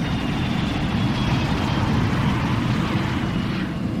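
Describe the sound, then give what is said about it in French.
A Yemenia Airways Airbus A310 airliner taking off on a flight to Moroni in the Comoros: a loud, steady roar of jet engines with heavy low rumble, continuous throughout, with no voices. “L'avion décolle.”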